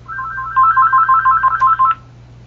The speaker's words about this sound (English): Hearing a phone ringing, if you could mute your line, please.